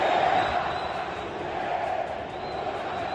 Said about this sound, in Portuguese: Foram bem audíveis os cânticos da claque do Flamengo, que diziam isto: Pereira, vá-se... O meu Flamengo não precisa de você. Vamos ouvir.